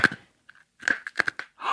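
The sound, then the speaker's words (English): Crunching of Life Savers hard candy being chewed, a quick irregular series of sharp, brittle cracks with brief pauses between bites, fairly loud and with no voices. “The kids tell me that when you chew on them, they give off a glow, something like a spark or a sparkle.”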